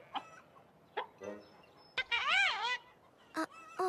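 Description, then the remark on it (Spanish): A chicken clucks in a few short, sharp bursts, then lets out a longer, wavering squawk before more quick clucks; fairly loud, with no talking. “Un poco de cacareo te va a dar las alas que necesitas.”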